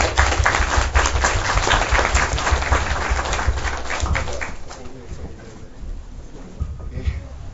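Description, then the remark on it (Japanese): An audience breaks into steady applause to welcome a guest being introduced, dense clapping that holds for several seconds and then thins out toward the end, with a few murmuring voices underneath. “拍手でお願いします。”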